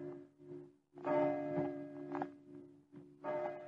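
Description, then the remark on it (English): A deep clock bell tolls slowly, striking midnight, several heavy strikes ringing out over a steady, humming resonance that lingers between each blow. “She said midnight. She must have heard the clock.”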